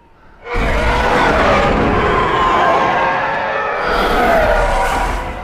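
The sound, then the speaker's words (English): A TIE fighter patrol screams in over a ridge: a loud, harsh roar with a howling, shifting whine bursts in after half a second, holds, then surges again near the end before easing off. “It doesn't sit well with him, though, but his angst is interrupted by the scream of a TIE fighter patrol coming over the ridge.”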